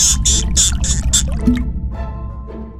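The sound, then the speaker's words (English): Water spurts and splashes out of a hole in a dam in quick, bright, rhythmic gushes, then settles into a quieter gurgling trickle with a low rumble of the dam underneath. “The water stopped flowing out of the dam”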